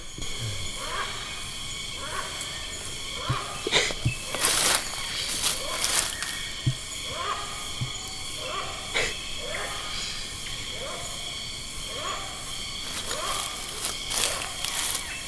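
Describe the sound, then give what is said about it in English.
A hornbill in the Tankoko Forest gives a series of harsh, bark-like calls, like a dog barking, repeated every second or two over a steady hiss of ambient background noise, with no clear talking. “I actually recorded this little snippet in the Tankoko Forest of the hornbill, which is a very interesting looking bird that they call a flying dog because it sounds like a barking dog.”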